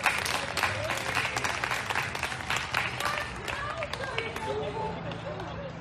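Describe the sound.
An audience claps steadily in a dense, continuous patter of many hands, with scattered voices and murmuring mixed in throughout.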